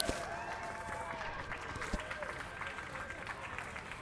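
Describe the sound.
An audience applauds steadily throughout, dense overlapping clapping at a fairly even loudness, with scattered cheers and voices mixed into the noise.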